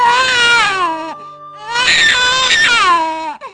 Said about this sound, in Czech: Byl to pláč jeho prvorozené dcery, tedy nové uherské princezny. Jak si všichni na hradu radovali, že se děťátko narodilo zdravé.